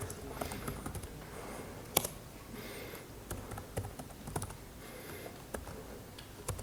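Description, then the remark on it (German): Steady typing on a computer keyboard, a quick irregular patter of key clicks with a few louder taps and no one speaking, as someone manually connects to a server over SSH and edits the authorized keys file in vi. “Wenn man dauernd zwischen deutscher und englischer Tastatur wechselt, ich habe mich jetzt manuell auf den Server verbunden, gehe ins SSH, mache ein vi.ssh, authorized keys”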